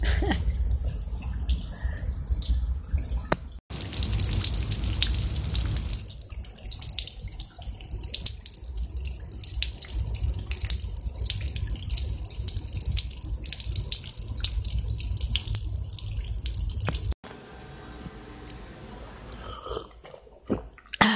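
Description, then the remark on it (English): Steady rain pours down at night in a continuous hiss, with scattered heavier drips and splashes breaking through the wash of water; no one speaks. “Yeah, it's raining.”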